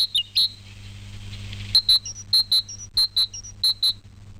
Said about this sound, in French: Évidemment, les mésanges vont également faire du bruit. En élaborant bruyamment leur volonté de fonder une famille, les mésanges zinzinulent.